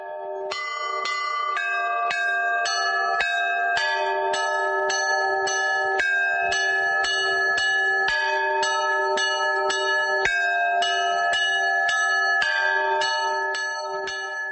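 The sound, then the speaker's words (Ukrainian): The bells of an old Cossack church of the Archangel Michael, about four centuries old, now in the folk architecture museum in Pyrohiv near Kyiv, peal on Palm Sunday in a lively, overlapping rhythm. Bright metallic strikes ring out one after another over a steady shimmering hum, loud, with no voices. “пропоную усім послухати дзвони старої козацької церкви архистратига Михаїла, що вже четверте століття, власне, нараховує.”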